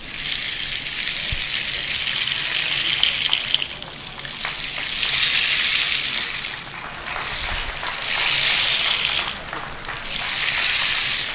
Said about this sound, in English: Okay, rain stick from Orbarish.